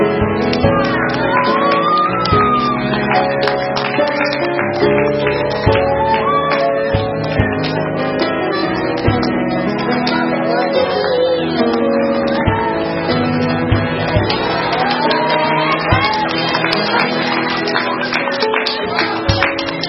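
Children clapping steadily, because they recognize who it is, through a lively crowd of young voices shouting and cheering, the sound staying loud and busy throughout.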